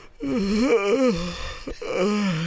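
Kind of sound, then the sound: human body sound, yawning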